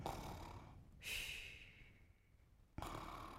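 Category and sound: vocal imitation, person imitating snoring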